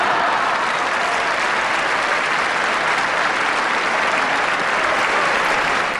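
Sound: crowd applause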